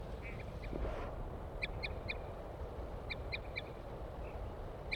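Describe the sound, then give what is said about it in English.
A female duck gives short, high toot calls in quick clusters of three or four, with pauses between groups, over a steady low rumbling background. “Here comes the female, giving toots.”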